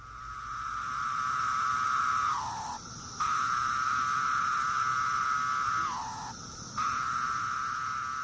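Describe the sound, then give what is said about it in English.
A cicada, one of the most common species on the East Coast, makes its steady, mellow song like a low whistle with the timbal membranes in its abdomen; it holds one pitch, then slides down in a drop-off note and briefly breaks off before resuming, twice, with no talking. “And so one of the most common on the East Coast is the really mellow sound, and it sounds like a low whistle.”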